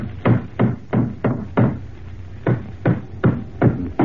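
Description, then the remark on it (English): A hammer drives nails into a floorboard: two runs of about five sharp, steady, thudding blows, separated by a brief pause, with no talking. “All right, I'll put the floorboard back in place now. I'll hammer these nails in and that'll be sound again.”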